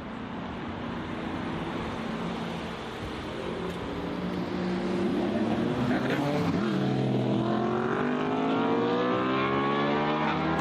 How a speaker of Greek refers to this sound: Εγώ θα σου πω την εμπειρία ζωής, γιατί έχουμε ένα κινητήρα ο οποίος είναι δίπλα μας ακριβώς. Ανεβάζει μέχρι 9.000 στροφές. Ο ήχος είναι απίστευτος. Απίστευτος, ναι, αυτό.